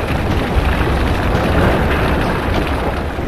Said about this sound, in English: At 9:26 p.m, a seismic event triggered an underground rockfall. Two enormous bangs and one of the mine tunnels collapsed.